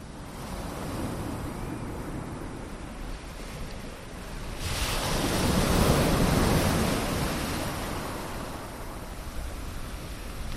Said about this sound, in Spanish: Bajo nuestros pies, la arena de la playa, alguno haciendo gimnasia y de fondo el sonido del mar.